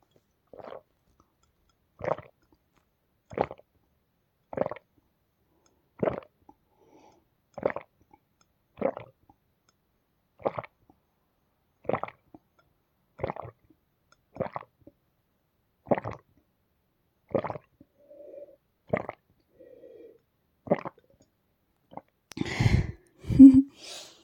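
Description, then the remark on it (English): A person sitting in their room drinks water with steady gulping, about fifteen short wet gulps at an even rhythm of roughly one every second and a half, followed by a louder, rougher burst at the end. “I don't know if you like me hearing me drink, but I think you would like it.”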